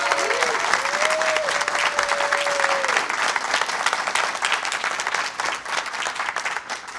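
A crowd applauds steadily for about seven seconds, a dense wash of many hands clapping, with a brief high whistle-like tone in the first few seconds before the clapping slowly thins.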